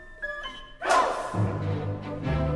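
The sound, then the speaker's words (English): Orchestral music from Leonard Bernstein's Slava, a tribute to Rostropovich, with a sudden loud shout of the dog Pooks's name by the orchestra members, a single short burst from many voices at once, after which the low brass-heavy chords carry on. “At one point of the score, members of the orchestra are invited to call out the talented dog's name.”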